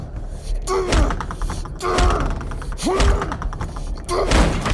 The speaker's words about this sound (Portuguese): Depois, ele começou a chutar a porta com puro ódio de morte.